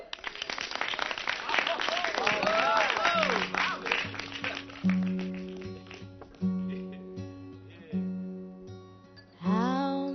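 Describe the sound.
A crowd claps loudly for several seconds as a folk-singer performer is introduced, with a few rising whistles or voices in the mix. The applause fades as steady, repeating musical chords begin.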